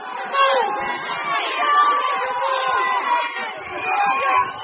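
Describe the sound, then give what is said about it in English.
A large crowd of protesters in Valletta, Malta, chants "mafia, mafia" as Muscat leaves his office, a dense, loud wall of many voices that rises and falls in waves without a break throughout. “So they're shouting, the protesters are shouting, mafia, mafia, just as Muscat is leaving his office.”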